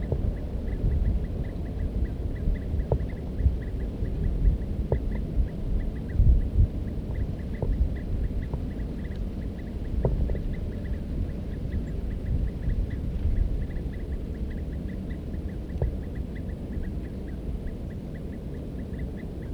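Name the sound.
birds calling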